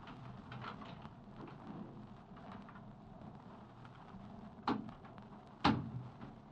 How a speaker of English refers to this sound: Here now, just hold these packages while I open the door.